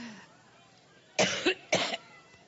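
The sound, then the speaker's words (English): Two harsh coughs from Hillary in quick succession, the second following about half a second after the first, loud against a quiet background with no talking. “But just for people who don't understand what we're talking about, I can't believe we're about to do this, but here's a clip of Hillary coughing.”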